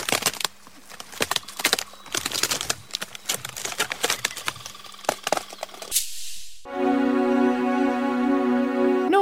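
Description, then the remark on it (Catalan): Crisp, crackling crunches of someone biting into a Magnum Galindó ice cream bar with a triple layer of crunchy chocolate, a dense run of sharp snaps for several seconds, then a brief pause and a steady, bright harmonic tone that holds to the end. “Escolta la mossegada més refrescant.”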